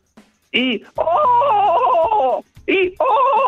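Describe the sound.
A phone caller imitates a donkey's bray: a brief strained cry, then a long loud hee-haw seesawing between high and low pitch, followed by another short cry and a second braying stretch.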